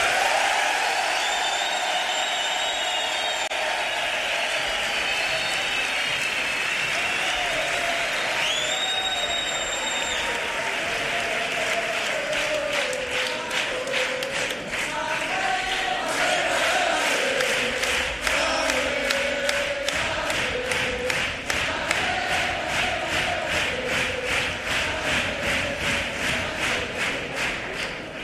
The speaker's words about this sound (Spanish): ¡Público! ¡Un aplauso! Los que piensen que ha ganado el Colilla. Y ahora, un fuerte aplauso los que piensen que ha ganado Manuel.